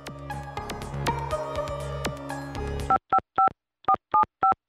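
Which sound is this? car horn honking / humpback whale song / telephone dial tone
telephone dial tone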